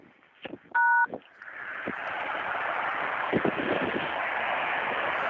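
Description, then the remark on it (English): Phone line tones after a caller failed to hang up: a single short, loud touch-tone beep, then a steady wash of line static and hiss that carries on to the end, with no one speaking. “Dude, hang up your phone.”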